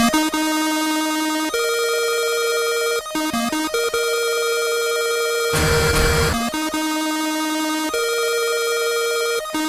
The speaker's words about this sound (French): Retour au standard du téléphone, sonne un autre appel.